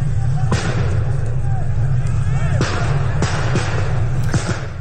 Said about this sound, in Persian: در مقابل این شلیک گاز اشکاور مردم هم شروع کردن به شعار دادن و ازدحام معترضان که در هول و هوش پل خواجو و به زاینده رود بودن بیشتر شد.